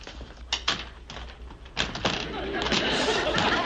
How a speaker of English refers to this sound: Now, I'm going to go outside and knock on the door.